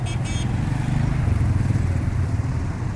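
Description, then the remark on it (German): Dense city traffic around Syntagma Square in Athens rumbles steadily on six lanes of taxis, old buses, limousines and overloaded three-wheeled scrap transporters, with the buzzing engines of Vespa scooters and motorcycles standing out over a constant low roar of vehicles. “Und dazwischen drängeln die TÜVs und Vespas nach vorn.”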